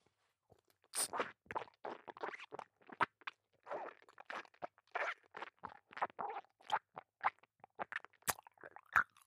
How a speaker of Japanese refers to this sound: 剥がれたチンカスの方は、 あなたの耳元で咀嚼いたしましょう。